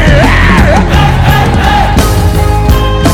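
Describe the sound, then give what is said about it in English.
A large crowd shouts loudly together in a sustained, unified yell, a dense and powerful wall of voices for the full few seconds. “Somebody say, kill on the moon. Yell it louder to the devil.”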